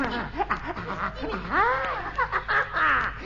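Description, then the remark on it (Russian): Monkeys in the trees cackling in a rapid, shrill chatter, with several rising and falling whooping calls in quick bursts that overlap one another, fairly loud and with no talking. “Это обезьяны хохочут на деревьях!”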